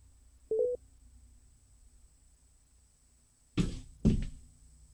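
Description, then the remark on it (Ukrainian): A single short electronic telephone tone beeps briefly over a faint hum while a dropped phone call is being reconnected, followed a few seconds later by two loud clunks like a handset being handled. “Ми зараз спробуємо налагодити зв'язок.”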